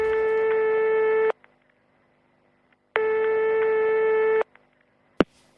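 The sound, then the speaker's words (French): Two long ringback tones heard through a phone line, each about a second and a half, separated by a pause, followed by a sharp click as the call is picked up; a phone call made to wish someone a happy birthday. “Voilà, et ben on écoute quand on l'avait appelé pour son anniversaire.”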